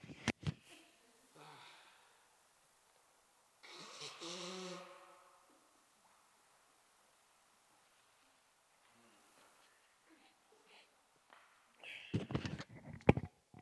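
A preacher blows his nose during a sermon: a few short snuffly bursts, then one longer, rough honking blow, followed by quiet and some closing sniffs and rustling. No one speaks.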